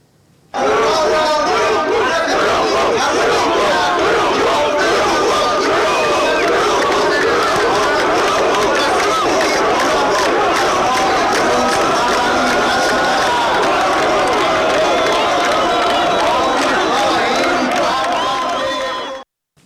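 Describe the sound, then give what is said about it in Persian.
A large crowd chants protest slogans in unison during Hassan Rouhani's speech in Yazd, Iran, with slogans such as "Let go of America, think of us", "inflation, high prices, answer Rouhani" and "liar, liar". It is a loud, dense roar of many voices that carries on steadily for nearly twenty seconds before cutting off. “در حین همین سخنرانی گروهی از حاضران شعارهایی از جمله آمریکا رو رها کن، فکری به حال ما کن، تورم گرانی، جواب بده روحانی و دروغگو دروغگو سر دادن که البته با انتقاد حسن روحانی روبرو شد.”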